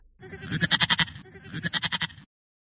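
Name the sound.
goat bleating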